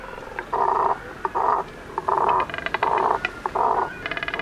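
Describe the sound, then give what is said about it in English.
A cormorant gives a run of about five harsh, throaty croaking grunts, evenly spaced, with faint rattling clicks between them and no one speaking. “The more you have, the more elaborate the sound. The cormorant has only one.”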